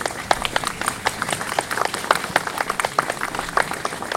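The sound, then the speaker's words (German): Steady audience applause for the members of a trombone choir (Posaunenchor) after their music at a church Kirchweihfest, many hands clapping in a dense, even patter with scattered sharper claps, holding at moderate loudness for about four seconds with no voices. “Und ich glaube, das ist ein extra Applaus wert.”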